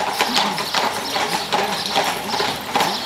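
Horse hooves clip-clop in a steady, even rhythm, each hoofbeat a sharp knock on hard ground, continuous throughout with a faint background hum.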